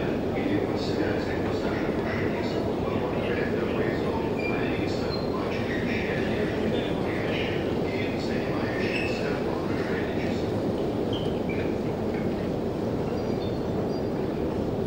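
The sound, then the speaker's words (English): Steady subway station ambience during an escalator ride: a constant low mechanical rumble with blurred crowd chatter and occasional faint high-pitched squeals, filling the whole stretch without pause. “I was just mentioning how these escalator rides seem to be as long as the actual train rides.”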